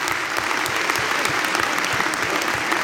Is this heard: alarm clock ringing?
no